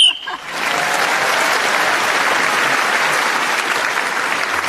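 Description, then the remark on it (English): A brief, shrill whistle blast sounds while a contestant is still speaking, earning a point, then gives way at once to loud, steady applause from a crowd that carries on to the end. “including one for speaking, as the whistle went, has moved forward.”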